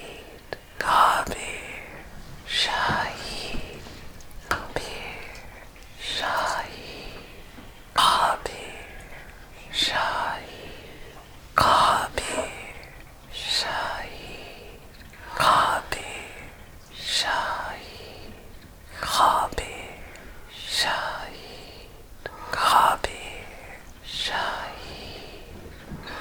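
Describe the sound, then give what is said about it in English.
Soft whispered breaths during a guided breathing exercise rise and fall in a steady rhythm, inhales alternating with exhales about every two seconds, a dozen or so airy pulses with quiet pauses between. “Fall into just the breath, no sound. Breathing in Khabir and out Shahid.”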